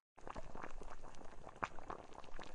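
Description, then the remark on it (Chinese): A pot of home-stewed soup bubbles at a steady simmer, nearly scorching in the pot, with a continuous churning, popping texture and small irregular bursts, heard alone with no voices. “哎呀，我炖的汤，哎呀，都怪你，妈妈差点把锅都炖糊了。”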